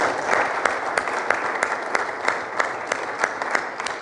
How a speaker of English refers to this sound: And so I do this quite often, but let's give our folks at home a round of applause. Come on.